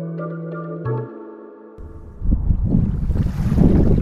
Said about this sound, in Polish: Spójrz, wiatr. Nareszcie będzie można popływać. Zobacz, jakie podmuchy.